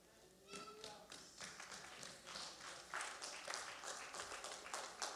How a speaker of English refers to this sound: If you are clapping, please clap properly for the King of Kings.